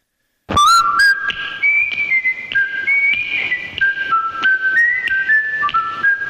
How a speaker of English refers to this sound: Except when the whistle started, it was loud.